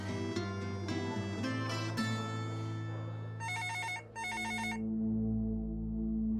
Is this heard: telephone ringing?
yes